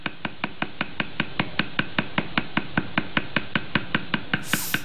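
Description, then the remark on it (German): A hand-tattooing tool: needles of various sizes are tied to sticks, and another stick used as a hammer strikes the end of the first stick in a brisk, even rhythm of about five sharp, woody knocks per second, continuing steadily for several seconds with no voices, ending with a brief hiss. “Und so ein weiterer dient dann als Hammer, da haut er dann auf das Ende des ersten Stocks oben drauf.”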